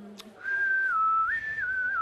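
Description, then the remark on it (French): A single long lufundo whistle, used by hunters to call their dogs, steady and clear, holding one pitch before stepping briefly higher and then settling back down, with no voices around it. “Parmi les sifflements, il y a ce qu'on appelle le lufundo.”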